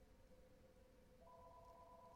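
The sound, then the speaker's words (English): Faint electronic ringing of a landline house phone, steady warbling tones with a second, higher tone joining midway, sounding alone over a low background hum. “He's got an actual house phone that rings.”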